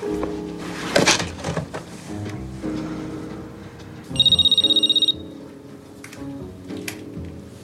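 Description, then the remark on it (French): A telephone rings once midway, a bright, rapidly trilling bell burst lasting about a second, standing out clearly over a low, murky background with a few knocks and clatters. “Excuse-moi, je prends le téléphone, je casse mon portable.”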